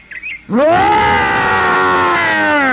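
A monstrous, angry roar from a six-headed giant coming out of a wood by a pasture just before noon bursts in after a brief quiet moment, swelling upward in pitch and then holding loud and rough for about two seconds, unaccompanied.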